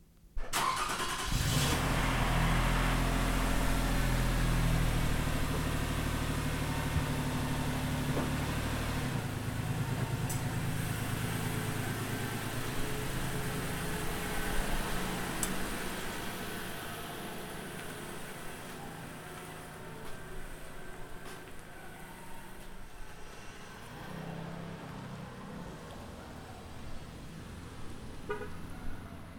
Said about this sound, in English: And now the sound of our car pulling out of the garage. I'm standing about at the garage door. The car is to the right. It backs out of the garage and passes me and then leaves going down the street.